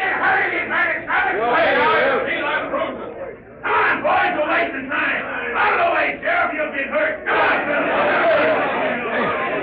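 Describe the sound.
An angry mob shouts and bellows in a dense, continuous roar of overlapping voices, surging loudly with a brief dip before swelling again, as it comes in after people and reaches the door.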